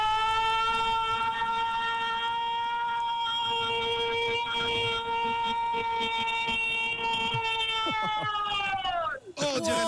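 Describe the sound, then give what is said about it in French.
A woman holds a long, loud, sustained "goal" shout in the manner of a sports commentator, trying to make it as long as possible, a steady harmonic-rich wail lasting about nine seconds before breaking off, with a brief burst of reaction at the end. “Je vais t'envoyer un petit signal, et puis à la manière d'une commentatrice sportive, quand tu as envie, tu te lances, tu lâches le goal le plus long possible, ok?”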